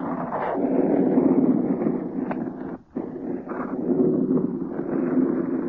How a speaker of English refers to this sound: Against the wind that's rushing through the ring of this mast top.